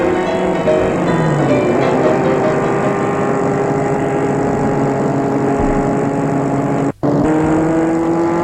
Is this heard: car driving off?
yes